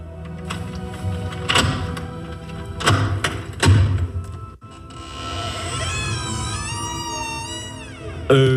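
A few heavy, spaced-out knocks thud on a door, then, after a sharp clunk, a long wavering creak follows as the door swings open. No one speaks.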